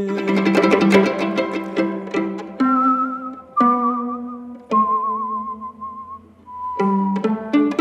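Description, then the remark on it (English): A clear, wavering whistled melody holds long notes over a plucked, chordal instrumental accompaniment, fairly loud, with no talking. “And the whistling is amazing.”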